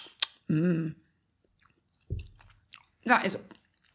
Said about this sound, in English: No, you just get chewing noises.